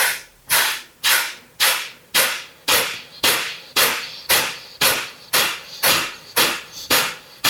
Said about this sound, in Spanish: Vamos a concentrarnos sobre todo en la exhalación y son respiraciones vigorosas y la inhalación ocurre por sí sola. Entonces sería algo como inhalamos, llenamos y siempre por la nariz.